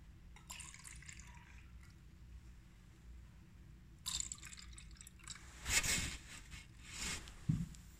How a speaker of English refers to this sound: Jesus, at the beginning of the meal, would pour each of us wine